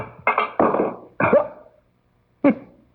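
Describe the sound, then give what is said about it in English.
Four hard, ringing thuds of a heavy wrench hitting a window pane, the first three in quick succession and the last after a pause, each with a short fading resonance. “It bounced right off the window pane.”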